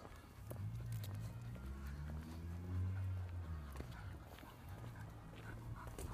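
A dog on a walk at twenty to nine at night: low, drawn-out dog vocal sounds rise and fall over a steady patter of footsteps and light clicks, at a moderate, even level with no talking.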